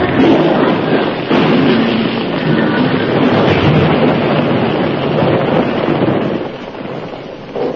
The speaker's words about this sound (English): Not that way. You're running right in the path of the explosion.